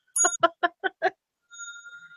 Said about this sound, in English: Have a ding.